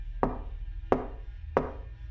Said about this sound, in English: I then walked out of the room and headed towards the front door. By the time I reached its wooden frame, two more series of knocks had occurred. There was no sense of emergency or even urgency, just persistent and constant.